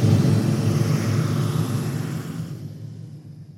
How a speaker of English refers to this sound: They hear the sounds coming. Motorcycles.